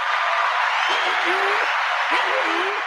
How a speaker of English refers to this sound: So everyone, round of applause.